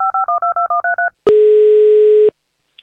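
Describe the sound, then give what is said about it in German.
A quick run of about seven short, evenly spaced two-tone telephone keypad beeps as someone dials to call a child, followed by a single longer steady electronic tone, loud with no voices. “So, und ich rufe schon das nächste Kind an.”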